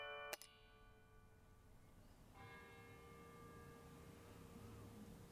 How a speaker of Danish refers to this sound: klokkespil.